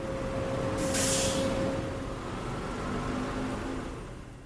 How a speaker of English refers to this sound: We're at the car rental place.